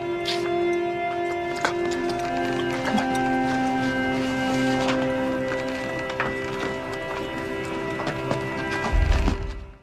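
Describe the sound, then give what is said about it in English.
A donkey's hooves clip-clop at a steady walking pace, fairly loud, over a sustained droning tonal background, with a deep thump near the end and no talking. “Humble and mounted on a donkey. On a colt. The foal of a donkey.”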